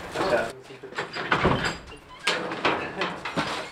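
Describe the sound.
A door at a chimpanzee facility is pushed open and bangs shut as a visitor is hurried out, amid a series of clattering, rustling bursts, with some muffled activity and voices in the background.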